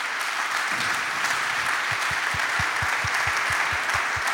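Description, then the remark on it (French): A large audience applauds loudly and continuously to welcome Olympic archers Lisa Barbelin and Thomas Chirot, dense clapping filling the space, with rhythmic low thumps beating steadily underneath as if from stomping or a drum. “Allez, je vous demande un tonnerre d'applaudissements pour Lisa Barbelin et Thomas Chirot, s'il vous plaît.”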